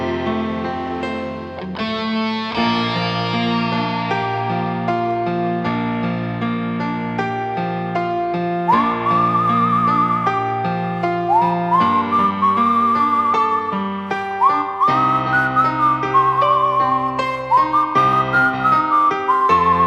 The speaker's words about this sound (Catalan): Aquest senyor l'havia utilitzat per anuncis. Havia treballat en pel·lícules western a Estats Units i tal. Era el xiulador de Girona.